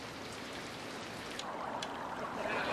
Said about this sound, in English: All right, I'll switch over to Babbling Brook.